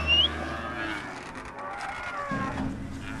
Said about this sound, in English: So traded the two-door sports coupe car in for a big four-wheel drive, and off I went.